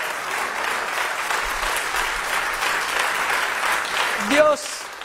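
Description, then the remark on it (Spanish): An audience applauds for God during a sermon, a dense, sustained wash of clapping that holds its level throughout, with a brief tonal voice or whistle rising near the end. “¿Cuánto le pueden dar un aplauso a Dios?”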